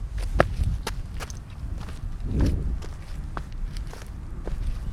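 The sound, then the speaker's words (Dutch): Footsteps crunch over loose pebbles after sand by an old arm of the Maas river, a steady series of gritty steps with scraping stones under each footfall and no voices. “En afhankelijk van het seizoen waarin je dit luistert en hier wandelt, kan dit, waar wij nu nog over het zand lopen, gewoon water zijn. En dan ga je over de steentjes. Jij doet het nu al.”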